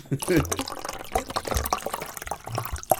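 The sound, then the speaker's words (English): Liquid pours steadily into a glass, a bubbly, gurgling splash lasting a few seconds, with a faint voice murmuring underneath. “Probably making some people have to, like, pee. Or do you want to pour you one also? Pour with us.”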